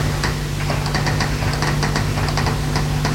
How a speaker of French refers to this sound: Comment? Je n'entends pas. À cause du bruit de la douche.